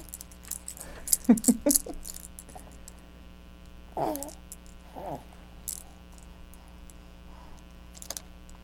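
A baby jangles a bunch of keys in a few quick, bright bursts of metallic clinking, followed by softer rattles and a couple of faint vocal sounds over a steady background hum.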